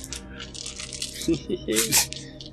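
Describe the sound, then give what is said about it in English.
Dice are rolled across a tabletop for a perception check in a tabletop role-playing game, a quick burst of sharp clicks and rattles, with a brief murmur of voice mixed in partway through. “Forgot to get my dice out.”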